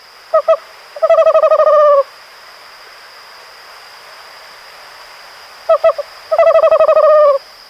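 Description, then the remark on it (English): An owl hoots twice, each time with two short notes followed by a quick, stuttering run of hoots lasting about a second, clear over a steady thin high-pitched hum. “But throughout history, the owl has received mixed reviews.”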